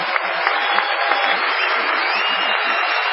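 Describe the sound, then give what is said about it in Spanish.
A large evening audience gives an ovation to greet Patricio Bartón, applauding steadily for a few seconds, a dense, continuous wash of clapping at even loudness from start to finish, with no pause or fade. “Así que ahora te vamos inmediatamente, por favor, a saludar a Patricio Bartón con una ovación de la cual él ya no pueda olvidarse.”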